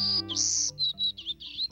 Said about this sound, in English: Hear that? There's something small, black, and yellow buzzing in the trees. Is it a bug? A bee? No, it's a bird. A golden-cheeked warbler, to be exact. He's smaller than a sparrow, with a white belly, yellow face, and black throat.